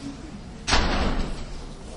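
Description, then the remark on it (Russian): After a quiet start, a door shuts with a single loud thud partway through, followed by a short rumbling decay that fades gradually. “Закройте дверь.”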